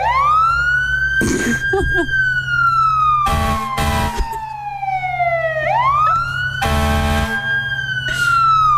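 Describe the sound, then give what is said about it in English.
A voice imitates a fire truck siren from the back of the throat: a loud wail that swoops high, slowly slides down, then climbs again, interrupted by short bursts of harsh noise. “All right, try a fire truck”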